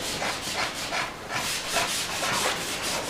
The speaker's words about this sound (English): The slicker seemed to fly over the skin, taking along the hair. At the end of this task, the skin was very smooth without any tears